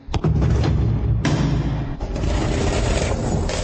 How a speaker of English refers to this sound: And now I hear the heavy feet tramping again.